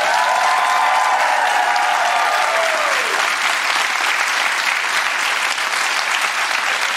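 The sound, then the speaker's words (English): Loud, sustained audience applause: dense, steady clapping throughout, with a high whoop or whistle sliding downward in the first few seconds, then continuing evenly with no talking. “Y'all give it up for”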